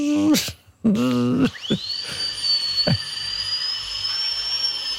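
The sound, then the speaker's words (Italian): A couple of short tonal, voice-like bursts, then a dentist's drill at the dentist's spins up into a high, thin, steady whine that keeps going, fairly loud, with faint clicks underneath. “Trapano.”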